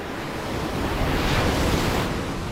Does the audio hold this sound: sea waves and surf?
yes